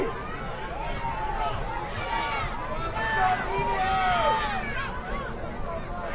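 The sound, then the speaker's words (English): A low, steady murmur of a quiet stadium crowd at a football game between Marblehead and Tanner, many indistinct voices blending into a soft, continuous hubbub with occasional higher calls rising faintly above it. “Very quiet crowd like right now, wanting something to happen.”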